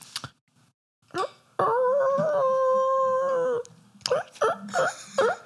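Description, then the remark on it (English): A child's voice imitates a whimpering coyote call, with a brief yelp, then one long, steady howl, followed by several short, rising yips in quick succession. “Can you do a coyote call? Yeah, I can try.”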